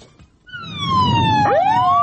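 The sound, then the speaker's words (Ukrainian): An ambulance siren starts up after a brief quiet moment and wails loudly, its steady tone joined by a second rising sweep, with low traffic rumble underneath and no talking. “Ці реанімаційні автомобілі зазвичай їздять без цього звичного звуку сирени і навіть із вимкненими фарами, а стабілізувати пацієнта доводиться на швидкості понад 100 км на годину під розриви артилерійських снарядів.”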